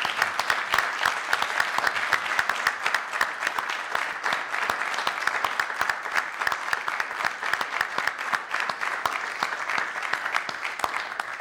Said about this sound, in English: I would like for him to stand and let us applaud his contribution.